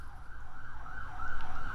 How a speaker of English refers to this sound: as the siren goes past.